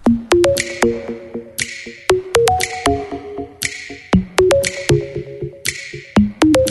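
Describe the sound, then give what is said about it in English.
An instrumental song intro played on air: bright, plucky melodic notes bounce in a steady, upbeat rhythm over a low bass pulse, loud, with no singing yet. “Right, let's play a little song and then we'll get us on the phone.”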